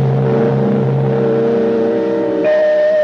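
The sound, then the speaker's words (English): A car engine idles with a steady, droning hum, then its pitch jumps abruptly near the end as the motor is revved. It is loud, with no voices. “Therefore, the right of an automobile engine to go on running must be protected, even if the driver died.”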